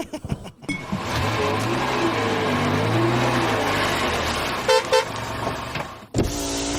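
car driving past

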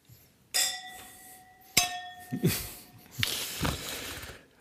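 wine glasses clinking

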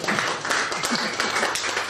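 audience applause

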